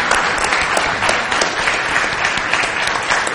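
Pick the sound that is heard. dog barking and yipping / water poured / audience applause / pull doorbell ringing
audience applause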